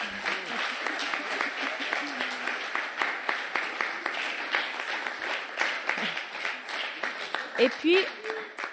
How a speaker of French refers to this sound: Et avant ça, j'allais oublier, les décorations que vous voyez là, le long des murs, ont été faites avec les enfants des Toons. Ils ont participé à faire ça il y a quelques semaines déjà. Donc voilà, vous pouvez les applaudir.